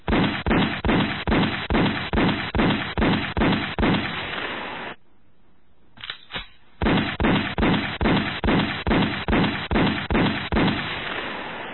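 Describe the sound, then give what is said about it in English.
A rapid series of loud gunshots fires in steady rhythm, pauses briefly with a couple of faint pops, then resumes with another evenly spaced volley. “Now you know how many children die from gunfire on our streets every day. That's 10 too many.”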